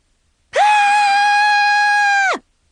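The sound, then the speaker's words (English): A single loud, sustained high-pitched scream lasting nearly two seconds, held at a steady pitch before cutting off abruptly, with silence on either side. “That was me screaming!”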